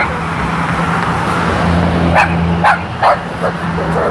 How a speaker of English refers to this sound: What a horrible looking dog. It's a little, some sort of little terrier, but it has like white eyes, very pale blue eyes.